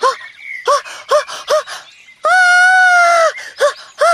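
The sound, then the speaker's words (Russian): A woman's shrill scream rings out loud, a sustained high-pitched wail lasting about a second, set between rapid short yelping gasps before and after; it is the Queen shrieking that her finger is bleeding, her cry piercing like a steam-engine whistle. “Но тут королева так завопила, что она замолчала на полуслове.”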